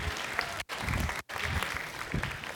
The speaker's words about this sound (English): Can you give John a round of applause for that? Because that was pretty great.